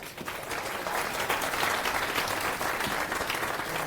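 An audience claps steadily for several seconds, a dense, even wash of applause with no voices standing out, welcoming a speaker for a talk on 5G in ModemManager.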